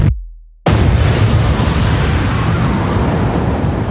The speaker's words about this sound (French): C'était un complexe industriel. Il n'en reste plus rien. 10h20 ce matin, une explosion gigantesque dévaste l'usine pétrochimique AZF. Une usine qui produit des engrais à la périphérie de Toulouse.